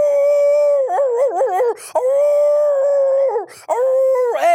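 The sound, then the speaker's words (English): A voice imitates a wolf howling, loud: long sustained howls with wavering pitch, a quick warbling stretch early on, and short breaks between three drawn-out calls. “There's a wolf chewing on my leg.”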